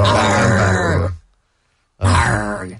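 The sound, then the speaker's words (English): A voice imitates a growl in two loud, rough bursts, a long gravelly rumble followed by a short silence and a second guttural snarl, with no words spoken. “We heard him actually growl.”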